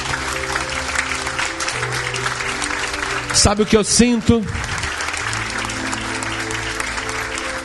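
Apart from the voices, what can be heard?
audience applauding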